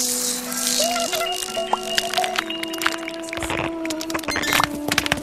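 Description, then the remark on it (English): Steady clattering and rattling as a Chipldook, a kaleidophonic phonoscope toy, is rolled: pebbles, shells, balls, seeds, live bugs, bells and delicate mechanisms tumbling together, with dense irregular clicks over a sustained tonal hum, louder and busier toward the end. “It is the result of moving pebbles, shells, balls, seeds, live bugs, bells, and extremely delicate mechanisms which imitate the sounds of birds and animals as well as those of human laughter.”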